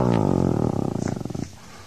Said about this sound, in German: Denn da links habe ich so ein leises Knurren gehört.